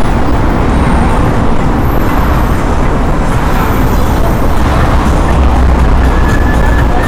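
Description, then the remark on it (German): Steady, dense roar of traffic on a heavily travelled main road beside the Moskauer Bahnhof, a continuous low rumble of engines and tyres with no pauses, loud throughout, no speech. “Und ihr seht, ich gehe an einer ziemlich stark befahrenen Hauptstraße vorbei, ne?”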